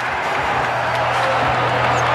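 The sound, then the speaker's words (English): Steady, dense crowd noise from fans at Chase during a timeout in a Warriors–Denver basketball game, a continuous wash of many voices murmuring and buzzing at a fairly loud, even level with no distinct cheers or claps standing out, plus a faint low hum underneath. “And listen to the crowd. We've got fans here at Chase.”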